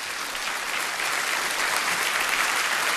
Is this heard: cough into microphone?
no